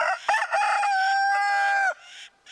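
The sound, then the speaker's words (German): A rooster gives a loud alarm call warning of a bird of prey from above: a brief choppy start, then one long, strained, drawn-out note that breaks off after about two seconds, with no voices. “Für jede Gefahr habe ich einen eigenen Warnruf.”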